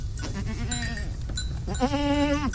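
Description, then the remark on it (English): A herd of goats with bells bleats in a short burst and then a longer, wavering cry, loud against a steady outdoor rumble, with no one speaking. “It's just a herd of goats and bells.”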